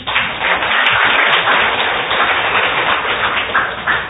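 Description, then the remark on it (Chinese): A class audience applauds a participant steadily for about four seconds, a dense, even wash of many hands clapping at a constant loud level with no voices on top. “好，来我们跟他鼓掌好不好。”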